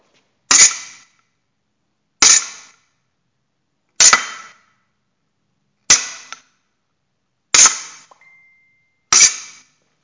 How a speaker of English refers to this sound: These will be glissé and hitting the bell guard on an épée. These are just bell guard hits on an épée.